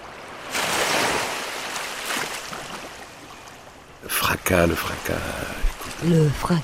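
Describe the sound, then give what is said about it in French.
Ocean waves crash in a broad, hissing roar that swells and slowly washes back for a few seconds, then a person starts talking over the fading surf. “Le fracas des vagues.”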